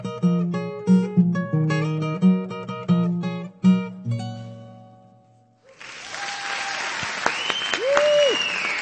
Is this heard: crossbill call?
no